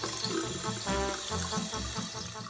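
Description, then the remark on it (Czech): Water from a small cat water fountain with an adjustable stream trickles steadily into a large ceramic basin, a continuous splashing and gurgling with a faint low hum underneath and no voices. “Česma je neprestalan izvor sveže vode sa podesivim mlazom koji curi ili kaplje u lavabo, što je velika keramička činija napravljena da može da ponese mačke bilo koje težine i veličine.”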